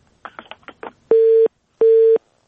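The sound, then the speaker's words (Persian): A brief burst of garbled line noise, then a telephone busy tone after a caller's call disconnects: two loud, steady beeps of equal length separated by short silences, clear, with no voices. “تماسشون قطع شد.”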